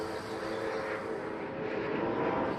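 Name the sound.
airplane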